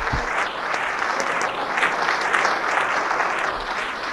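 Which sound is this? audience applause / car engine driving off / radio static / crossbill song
audience applause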